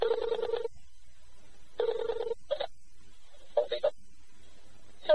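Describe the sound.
Two buzzy ringback tones sound over a phone line as a call is placed through an internet call center, each lasting under a second with a pause between, followed by short, clipped bursts of a voice coming through the receiver.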